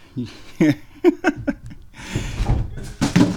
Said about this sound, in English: Okay, I don't know if you heard that, but the cat just knocked some stuff off the washing machine.